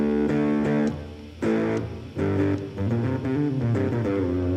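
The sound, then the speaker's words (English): A fuzzy, distorted electric guitar, played through a fuzz pedal and a tiny bit of reverb on a separate pedal board with a DI, direct into the PA, plays a short phrase of sustained notes and chord stabs, thick with harmonics, with a faint touch of reverb trailing each note. No voices. “Couldn't get that sound, so we set up a separate pedal board with just a DI, just a fuzz into like a tiniest bit of a reverb direct into the PA.”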